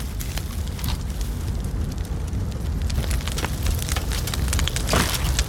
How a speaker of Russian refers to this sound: Скажи, круто, да? Костер, природа.